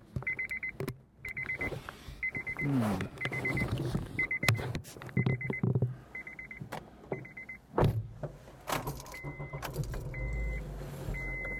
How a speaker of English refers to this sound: Oh, stop beeping at me, for God's sakes. Don't I put my seatbelt on every day?